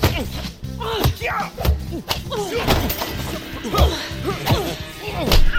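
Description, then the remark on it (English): Punches land on a person's chest during a fight in a rapid series of hard thwacks and smacks, mixed with strained grunting voices and busy background noise. “Did you just punch me in the boob?”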